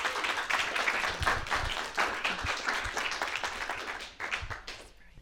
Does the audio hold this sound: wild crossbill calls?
no